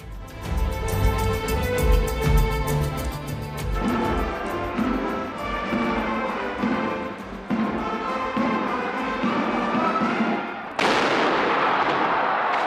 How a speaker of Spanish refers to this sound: Tradicional cañonazo desde Alderdi Eder ha sido después de dos años el pistoletazo de salida para la fiesta de los y las donostiarras.